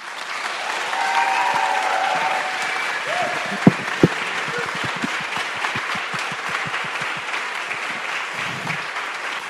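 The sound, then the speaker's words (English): A large crowd applauds all the speakers of the evening, a dense wash of clapping that holds strong for the whole stretch, with a couple of sharp, louder claps standing out partway through and faint cheering underneath. “And folks, can we have another massive round of applause for all our speakers this evening?”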